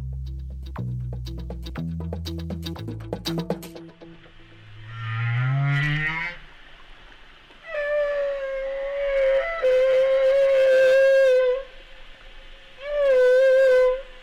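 A male humpback whale sings: deep pulsing grunts, then a rising moan, followed by long, wavering, high-pitched cries that recur in phrases. No one speaks.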